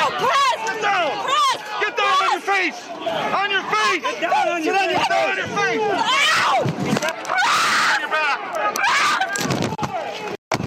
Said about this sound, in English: screaming as the riot police took her down, bloodying her face.